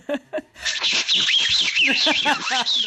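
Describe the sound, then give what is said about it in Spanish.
A whistling firecracker: after two short vocal bursts, a sustained hissing shriek rises in, its high whistle wavering in pitch for about two seconds, with voices faintly underneath. “Eso parecía de ese buscapiés, ese más bien un chiflador.”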